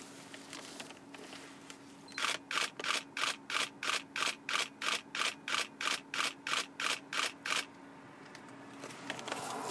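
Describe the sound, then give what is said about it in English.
A camera, set down with its aperture at about 4.8, fires its shutter in a rapid continuous burst of about four and a half frames per second, about sixteen crisp, evenly spaced clicks over roughly five seconds, clear with no talking. “I'll just set this down here and line it up and see how many frames per second it gets.”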